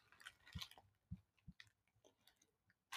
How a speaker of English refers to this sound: Oh no, I'm shrinking, he yelled, and he fell straight into his cereal. Crunch!